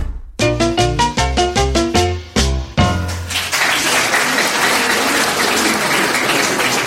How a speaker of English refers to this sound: Well, thank you so much for that round of applause. It's so nice of everyone in the studio to greet me like that every week.